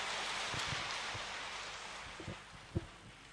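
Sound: audience applause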